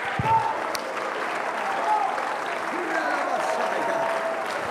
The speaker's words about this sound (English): Hallelujah. Clap your hands to the Lord all over this place. All over this place.